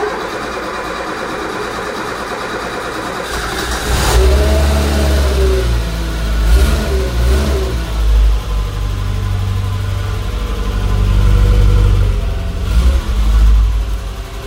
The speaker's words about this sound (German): Wir können mal einsteigen. Genau. Also man hört schon, wir sitzen jetzt im R4.